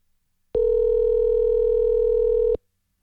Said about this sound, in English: So I had to make a phone call to the folks at Grand Rapids Transmission and see what takes place here on this.